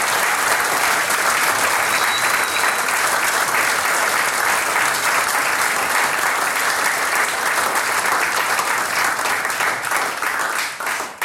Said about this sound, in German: Ihr habt uns gerade richtig begeistert. Ich glaube, das hat sich noch einmal einen ganz besonderen Applaus verdient. Sehr, sehr klasse.